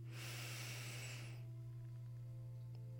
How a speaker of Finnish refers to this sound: Aloitetaan ihan sillä, että hengitetään syvään.